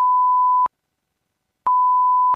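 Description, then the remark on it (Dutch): Two loud, steady electronic beeps at a single mid-high pitch, each lasting about two-thirds of a second, separated by a second of silence, coming from malfunctioning eavesdropping equipment installed during a break-in. No voices. “Ze hoorden alleen wel hele harde piepjes.”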